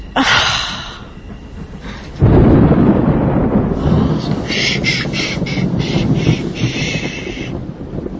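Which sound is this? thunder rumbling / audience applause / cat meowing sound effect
thunder rumbling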